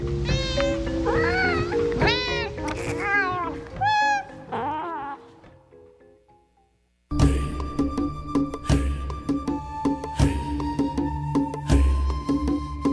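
A cat meows repeatedly, roughly half a dozen loud, wavering calls in quick succession that fade out, followed after a short silence by busy, steady music-like sound.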